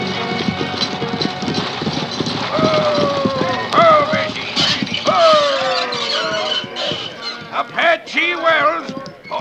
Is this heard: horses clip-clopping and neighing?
yes